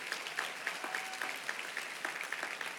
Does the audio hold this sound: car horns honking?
no